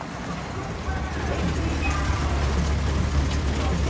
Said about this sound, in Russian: Рядом тормозит фургон доставки.